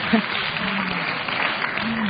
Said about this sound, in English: Now that I got the applause, can I go?